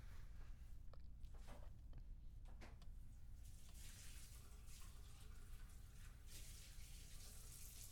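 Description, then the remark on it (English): Water runs steadily from a sink tap while dishes are washed, with a few brief clinks and knocks early on over the constant hiss; no one speaks. “Okay, I have to finish washing these dishes.”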